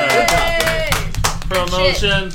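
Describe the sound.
A short round of applause, irregular sharp claps layered under loud voices cheering and whooping for a couple of seconds.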